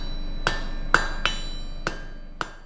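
Five sharp hammer blows strike metal at an uneven pace, each with a bright ringing tone that quickly fades, with no talking.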